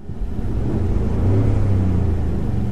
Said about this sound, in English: See if you can tell the difference. This is the real, actual sound of a Ford F-150. Here you go.